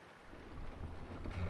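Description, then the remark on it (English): A sailboat's jib sail flaps and rustles in strong wind, a loud, steady rush with low rumbling buffets that swell toward the end; no one speaks. “It's flapping.”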